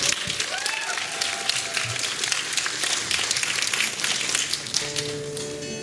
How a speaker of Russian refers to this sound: Ваня Карибанов на сцене, аплодисменты.